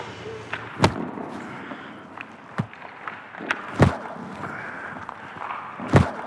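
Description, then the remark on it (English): Rubber hockey pucks shot at goalie Gibson during a Caps rookie practice on the ice thud against his body as he blocks them, four solid, dull impacts at uneven intervals, with a few lighter knocks in between over a steady murmur of background noise. “That thud is the sound of a rubber hockey puck that's been shot at Gibson that he is blocking with his body.”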